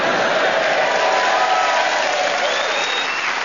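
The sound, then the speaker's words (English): A large theatre audience at the Theatre Royal in Nottingham applauds steadily and loudly, with scattered cheers and whistles rising above the dense wash of clapping throughout, cheering at the start of a Just a Minute show. “Who are just ready to cheer us on our way.”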